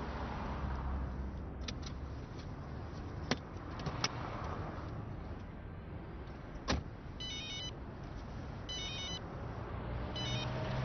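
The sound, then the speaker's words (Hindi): A telephone rings in short, evenly spaced bursts toward the end, over a steady low background rumble with a few sharp clicks earlier; no one speaks. “अस्सलाम वालेकुम, मैं … हूँ, मैंने माफी के लिए फोन किया है।”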